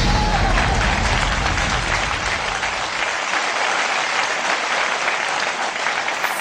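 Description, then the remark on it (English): A fake applause sound effect opening the Tanned Up Comedy Jam: loud, dense applause, a steady wash of many hands clapping at once with a few cheers, sustained throughout without letting up. “Fake applause and welcome to the Tanned Up Comedy Jam presented by the Tancast Podcast.”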